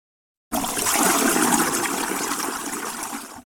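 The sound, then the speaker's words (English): Water rushes and swirls steadily for about three seconds as a finger spins slowly in water and a tiny whirlpool forms, curling inward: a full churning like a small whirlpool draining, starting and stopping abruptly with no voices. “Now, remember when you would spin your finger slowly in that same water, and a whirlpool forms, a tiny whirlpool curling inward.”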